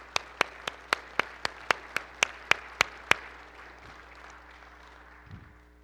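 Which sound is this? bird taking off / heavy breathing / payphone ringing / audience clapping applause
audience clapping applause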